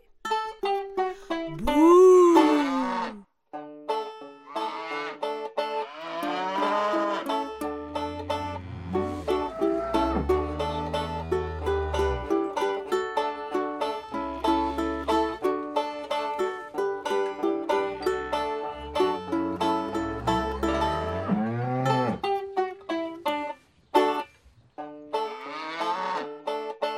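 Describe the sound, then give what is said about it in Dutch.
A cow moos, drawn-out and sliding in pitch, over a bouncy, upbeat children's music backing that keeps playing steadily throughout. “Er loopt een koe naar mij, en weet je wat ze zei?”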